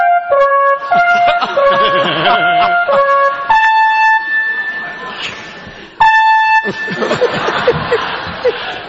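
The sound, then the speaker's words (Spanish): A fire alarm connected to the fire brigade blares with loud, harmonic electronic tones that step between pitches, sounding almost continuously for several seconds, with voices and some laughter mixed underneath. “Este estaba conectado a los bomberos. Y se la alarma sobona.”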